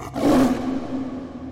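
A deep, rough jaguar roar bursts out loud, then trails off into a low sustained rumble, with no voices present.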